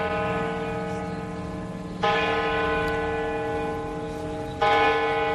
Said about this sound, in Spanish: Las campanas doblan y avisan de que alguien del pueblo acaba de fallecer. Unas campanas que han sonado mucho, demasiado, en un pequeño pueblo de Ávila, en Vega de Santa María.